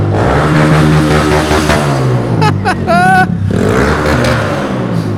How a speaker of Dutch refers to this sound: Hè, dat ik vind het leuk om zo'n iets oudere generatie motorfiets terug te zien. Doe een burn-out dan.